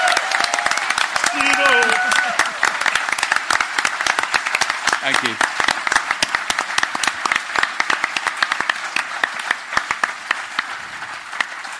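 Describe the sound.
A crowd applauds steadily for about twelve seconds, a dense, crackling wash of many hands that thins slightly toward the end. A voice briefly speaks over it near the start.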